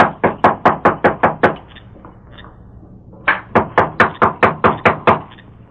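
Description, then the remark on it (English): Two bursts of rapid, sharp knocking on a wooden door at night, about eight raps each, separated by a short quiet pause. The knocks are fairly loud, with no voices. “Well, knock.”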